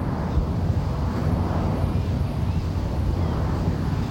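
A steady, low roar of air traffic from Miami International passing overhead in the Everglades and Biscayne National Park area, a deep continuous rumble that holds at an even loudness throughout without rising or fading away.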